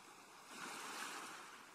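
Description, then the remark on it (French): Ocean waves break on the shore with a broad, hissing wash that swells to a peak midway and slowly recedes, steady, with no voices. “Vous appréciez pour quelques minutes encore le bruit des vagues et des mouettes et la douceur de cette mer accueillante.”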